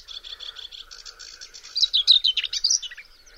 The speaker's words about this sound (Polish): Po tej cesze można odróżnić śpiew pokląskwy od innych ptaków słyszanych w tym samym środowisku, na przykład cierniówki.